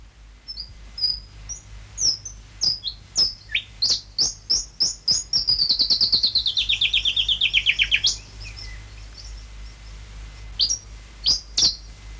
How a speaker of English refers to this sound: And I tracked down the actual noise of the noisy scrubby bird at the Australian Museum, and here it is.